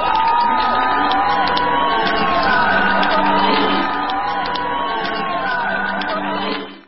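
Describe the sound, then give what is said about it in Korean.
A large crowd at a human rights torch event in Union Square, San Francisco, cheers and whoops loudly as former Chinese national basketball player Zhen Kai enters carrying the torch, with shouts and chatter blending into a steady, dense roar that holds for several seconds before cutting off. “전 중국 농구 국가대표 젠 카이가 인권 성화를 높이 축혀들고 행사가 열리는 유니온 광장에 들어서자 행사장에서는 열렬한 박수와 환호가 터져나왔습니다.”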